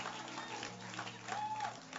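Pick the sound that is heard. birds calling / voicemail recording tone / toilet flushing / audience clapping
audience clapping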